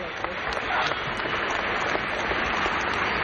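Dense, continuous applause from a large Hungarian crowd for Krisztina Egerszegi and other Olympians at an event, a steady hissing wash of many hands clapping at once that holds an even, fairly loud level throughout without breaks.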